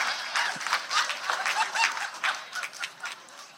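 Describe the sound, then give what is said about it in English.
An audience claps after a science joke, some men clapping especially hard, in a dense, steady patter of sharp hand strikes lasting several seconds, bright and moderately loud, with no clear speech over it. “some men were clapping too hard at that.”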